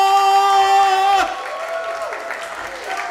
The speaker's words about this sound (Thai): ท่านผู้มีเกียรติครับเสียงปรบมือต้อนรับครับ